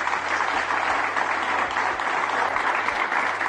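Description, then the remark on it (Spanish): The Valencia football team applauding its supporters: steady, dense clapping from many hands, loud and continuous, with no voices over it. “Escuchen cómo aplaude el equipo, el Valencia, a su afición.”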